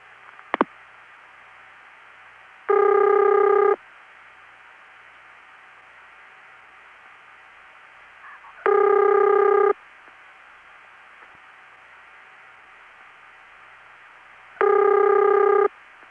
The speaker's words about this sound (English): Well, that's not one of the Bell system rings, so it's independent. That's actually a fairly common ring called Kenley ring. That is my locally recorded example. The pitch is slightly different, but it's the same type.